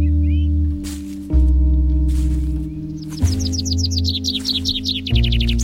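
A blackbird sings a rapid run of bright, repeated chirping notes in the second half, over a steady low droning hum that fills the whole clip.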